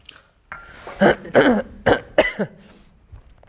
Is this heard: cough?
yes